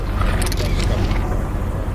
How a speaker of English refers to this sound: And then, the cuffs go on.